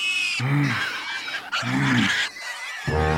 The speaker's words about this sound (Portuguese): Ora, havia uma grande manada de porcos pastando no monte.